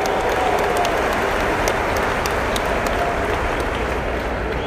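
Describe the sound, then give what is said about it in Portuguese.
Steady, loud applause from an audience for the company Rio Madeira, a dense continuous patter of many hands clapping together without pause for several seconds, with no voices standing out. “Uma salva de palmas para a Rio Madeira que oferece 100% de lucro aos seus consumidores.”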